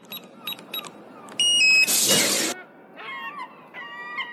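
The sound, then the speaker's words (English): A mobile phone rings with warbling electronic tones at moderate volume, following a few short beeps and a brief harsh burst of noise. No one speaks. “Whose phone is that?”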